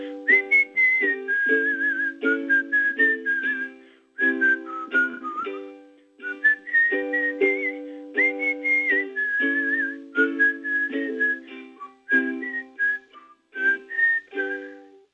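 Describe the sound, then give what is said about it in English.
A person whistles a lilting tune in short flowing phrases over steady chordal backing, with brief breaks between passages; no one speaks. “as I turned the key to my front door and let myself in, I couldn't help whistling.”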